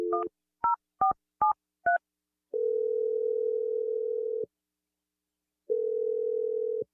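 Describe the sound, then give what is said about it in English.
A quick series of five electronic keypad beeps dials a phone number to call someone, followed by two long, steady ringback tones separated by a pause, clear with no voices. “I'm going to dial the number that you gave me for your boyfriend”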